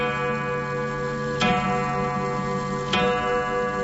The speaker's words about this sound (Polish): jest XVII-wieczny, a ma założony mechanizm troszeczkę młodszy, z początku XVIII wieku, a dla mnie największą magię posiada ten zegar przez to, że przez wiele, wiele lat był własnością pana Franciszka Starowiejskiego, którego miałem przyjemność znać.